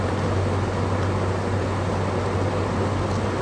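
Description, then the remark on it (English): A car drives steadily along a remote road in Australia, with a constant low engine drone and a broad rushing road noise that never changes in level. No one speaks. “Yeah, this is driving in bumfuck nowhere, Australia.”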